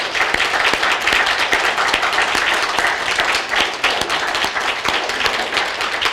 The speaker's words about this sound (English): Also, let's take a moment and have all of our veterans stand up and let's give them a thunderous applause of gratitude and appreciation. Will all the veterans stand up? Let's applaud them.